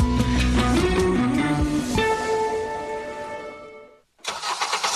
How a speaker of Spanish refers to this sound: En Karen, seguimos con motores encendidos.